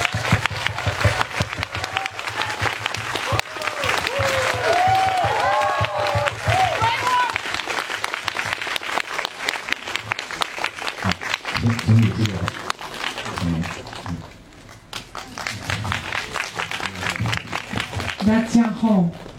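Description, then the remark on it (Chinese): Sustained, dense applause from a large audience at a film screening event, welcoming Justine Triet, director and writer of Anatomy of a Fall, onto the stage; steady and loud with brief dips, with scattered voices and cheers mixed into the clapping. “更重要的是，我们有请咱们这部电影的戛纳金棕榈最佳影片、奥斯卡最佳原创作品《坠落的审判》导演、编剧卢斯汀·克里耶女士登场，请大家报以热烈的掌声。”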